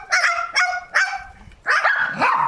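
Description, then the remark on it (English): A couple of dogs bark at a gate in South Africa while a parrot imitates them: several loud, harsh barks in short bursts, some from the dogs and others the parrot's raspy imitation of barking, overlapping with nasal honk-like calls. No talking. “This is the audio of parrot barking like a dog with the dogs.”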